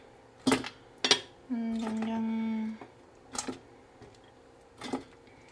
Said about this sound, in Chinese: 好，排骨都捞起来之后呢，我们就可以把所有的食材呢全部都丢到电锅的内锅里面。好，那你就先放排骨进来。